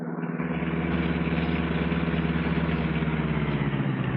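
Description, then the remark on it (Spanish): A compact car engine hums steadily as it pulls into a hotel parking lot in Tokyo, a low, even idle-like drone that holds constant for a few seconds with no voices. “Calimán guía su auto compacto y franquea los umbrales del estacionamiento del hotel”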